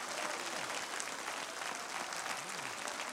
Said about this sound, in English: I wish somebody would take the next 15 seconds and give God some praise with a hand clap today for the precious anointing of God.